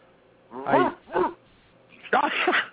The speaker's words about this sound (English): Here come the dogs.